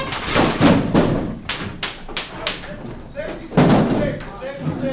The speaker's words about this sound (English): And then a sudden breach. The designated attacker breaks in and blasts away with his paint pistol as an air horn simulates gunfire.